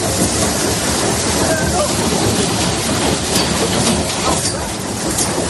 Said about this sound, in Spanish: Granizo del tamaño de pelotas de ping-pong que han dejado daños en viviendas, comercios y coches aparcados.